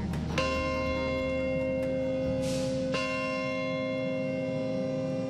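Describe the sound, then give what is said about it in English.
A large bell tolls twice, slow and resonant, each strike leaving a long ringing hum that lingers over faint background noise, at the site of the World Trade Center during a ceremony remembering the terrorist attacks of 16 years earlier; no one speaks. “A bell tolls at the site of the World Trade Center, remembering the day 16 years ago when terrorists struck and murdered over 3,000 innocent people in three separate locations in the United States.”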